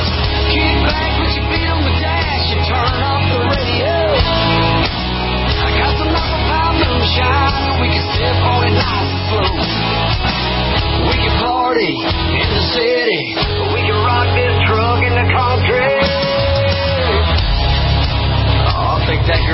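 A rockabilly-flavored country song with sung vocals plays loud and continuous, with a full band driving a steady, bouncy beat throughout.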